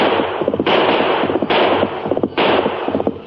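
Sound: gunshot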